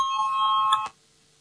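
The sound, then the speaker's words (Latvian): An electric bell calling a vote rings steadily with a bright, sustained metallic tone for under a second, then cuts off abruptly, leaving near silence. “Lūdzu, zvanu balsosim par 7.”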